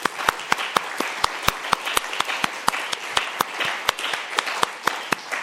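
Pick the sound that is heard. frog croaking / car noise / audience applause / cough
audience applause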